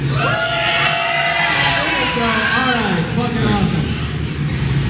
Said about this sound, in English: So to make people know that people are here, can we get a little crowd noise?